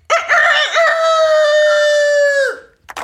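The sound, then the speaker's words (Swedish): A person does a loud rooster imitation: one long cock-a-doodle-doo crow with a warbling start and a sustained, strained tone that drops off at the end. “Får vi höra när du tuppar dig?”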